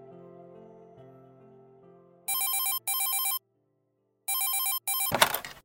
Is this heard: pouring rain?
no